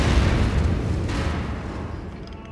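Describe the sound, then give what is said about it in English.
A car bomb explosion roars with a heavy, broad rumble from the start, then slowly fades over a couple of seconds with crackling debris-like noise and no voices. “A couple of years later, Joey's brother Billy was blown up by a car bomb right in front of him.”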